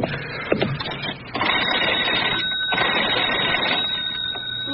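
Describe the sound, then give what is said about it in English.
An old telephone receiver is lifted with a sharp click, followed by several seconds of steady mechanical rattling and whirring as the line is dialed. No one speaks. “May I use your phone?”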